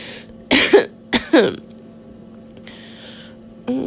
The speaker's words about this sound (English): Coming for you makes me cough, apparently.